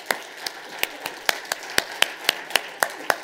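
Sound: audience clapping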